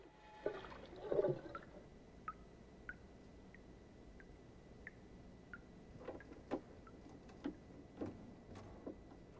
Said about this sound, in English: She splashes water onto her face.